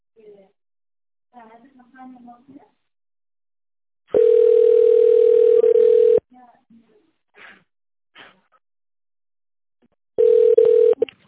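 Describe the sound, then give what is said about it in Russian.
Brief speech from a company's automated phone menu gives way to a loud, steady, mid-pitched telephone ringing tone lasting about two seconds, then a few short faint blips, and a second ringing tone begins before the end. “Если вы знаете внутренний номер сотрудника, наберите его в тональном режиме или дождитесь ответа оператора.”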